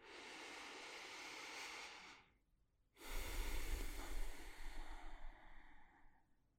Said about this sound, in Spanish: Vamos a comenzar tomando una respiración profunda. Respira conmigo.